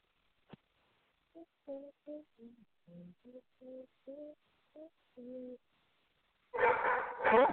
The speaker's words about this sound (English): Your dog sounds very angry. Yeah, I know. He's super pissed off because I'm down in the office and he's upstairs and I'm not letting him come down here.